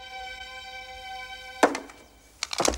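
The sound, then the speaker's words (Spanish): A sharp gunshot, fired in a salon toward a sound, cracks out over a steady, sustained musical drone, followed a moment later by a second burst of loud, ragged bangs near the end. “Wally tropieza y Sutherland dispara hacia el sonido.”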